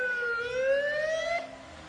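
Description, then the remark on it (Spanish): An ambulance siren wails loudly, its tone climbing steadily for over a second before dropping away abruptly, leaving faint street background with no one talking. “Vamos a quitarnos de aquí, que viene una ambulancia.”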